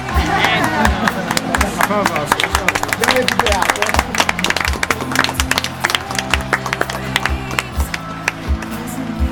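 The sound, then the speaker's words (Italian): An applause sound effect: a crowd applauds steadily, dense overlapping claps running through the whole stretch, with cheering voices and low rhythmic thumps mixed in underneath. “Fai partire l'applauso spontaneo per questo.”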